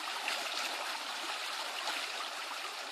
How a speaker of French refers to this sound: La pluie se fait un peu moins drue.